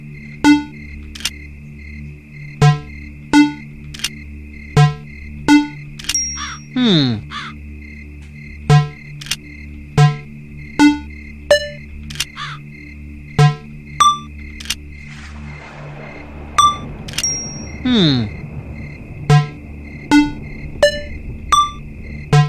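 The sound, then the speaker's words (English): Electronic video game combination-lock sounds: short beeping tones at four different pitches, moved through with left and right arrows, over a steady, regular clicking pulse, with a couple of descending ding-like sweeps, moderately loud over a low hum. “And I think it dings to tell you how many you have correct.”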